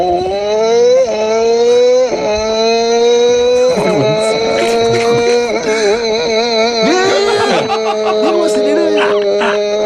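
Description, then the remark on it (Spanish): A listener's recorded mouth imitation of a Formula 1 car engine, a loud buzzing, nasal whine that climbs in pitch and drops several times like gear shifts, lasting about ten seconds. “haciendo ruido de Fórmula 1.”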